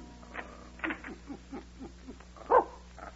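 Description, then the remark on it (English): A small dog named Binky makes a run of short, high whimpering yips in quick succession, mostly soft, with one sharper, louder yelp near the end and no talking. “We've got it badly, little dog.”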